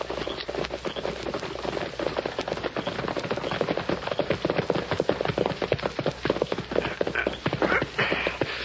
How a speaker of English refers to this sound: There's a horse coming, Sheriff. Masked man, you're right. Sure is. Quiet, everyone. When I give the word, we'll jump him. But not before. Sounds like he's stopping down with a cottonwood.